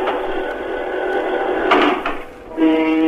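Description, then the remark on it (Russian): A loud, sustained ship's horn blast with steady harmonic tones, briefly interrupted by a dip before resuming strongly; a historic horn kept in the Krasnaya Presnya museum and silent for 62 years, sounding with no voices. “Вот его призывный голос. Мало вперед.”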